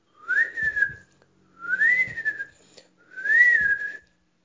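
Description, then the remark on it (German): Three long, high whistled notes, each gliding up and then sliding back down, with brief pauses between them. The whistling imitates the peeping and chirping of five newly hatched bird chicks poking their heads out of their eggs. “und dann brach die ganze Eierschale auf, und 5 kerngesunde, quietschfidele Vogelküken streckten ihre Köpfe aus den Eiern und begannen zu piepen und zu chilpen.”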